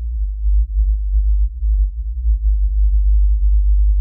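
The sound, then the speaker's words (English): A very deep, steady low-frequency whale call recorded in the North Pacific Ocean: a low droning hum that holds for about four seconds with slight wavering and no other sounds or voices. “I can actually play you a recording of the call they picked up back then.”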